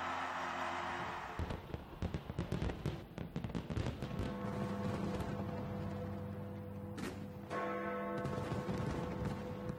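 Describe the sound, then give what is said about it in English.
A dense barrage of New Year fireworks bangs and crackles, rapid and overlapping, celebrating the arrival of 2023, with church bells ringing steadily beneath the explosions. No one speaks. “People across the world have been celebrating the arrival of 2023 with fireworks and other festivities.”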